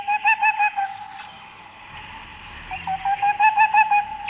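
A boreal owl, at night in the Sobibór Forests, gives two bursts of rapid, evenly spaced hoots, a fast mellow trill-like series at a steady mid pitch, separated by a short quiet pause.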